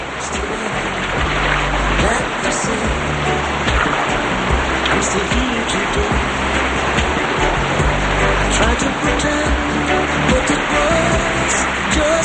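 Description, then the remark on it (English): A steady, dense rush of a waterfall splashing into a pond below it, constant and fairly loud throughout, with a low tonal hum running underneath. “They go to a pond under a waterfall.”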